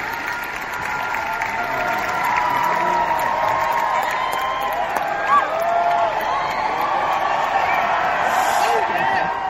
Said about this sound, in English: Everybody's cheering, then shh.